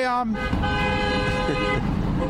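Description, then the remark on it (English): A car horn blares in street traffic as cars come by striking teachers on the sidewalk beside high schools in Chicago, a short toot followed by a longer sustained honk, loud over a busy background of road noise and murmuring voices. “You know, he's out there on the side of the high schools, getting the people all round up, and then cars would come by.”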